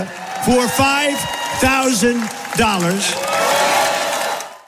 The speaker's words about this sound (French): $5,000 pour chaque Américain. Forcément, la foule exulte.